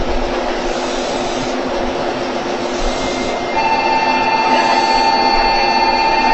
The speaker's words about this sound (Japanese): 4番線から電車が発車します。ご注意ください。 発車いたします。